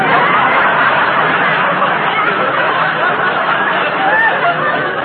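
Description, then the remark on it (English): Steady, dense crowd chatter fills a nightclub on New Year's, a continuous babble of many overlapping voices with scattered snickers and chuckles, loud and unbroken throughout. “Gee, what a crowd.”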